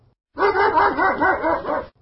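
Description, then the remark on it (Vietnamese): A white poodle dog named Capi lets out a quick string of about six loud yapping barks in one continuous burst, with no talking around it. “Nghe tiếng gọi, con chó xù trắng khoanh hai chân lại.”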